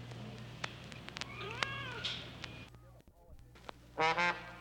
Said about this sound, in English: Nice kitty. Not the claws. No. Ow!